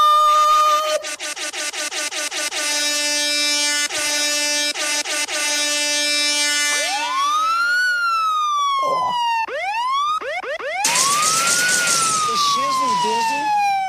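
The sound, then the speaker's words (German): Loud, dense horn blasts give way to rising and falling electronic siren sweeps, a rapid wailing pattern that repeats several times before a final upward whoop, like a stacked sound-effect burst. “Aber diese Sirene am Ende fand ich auch richtig gut.”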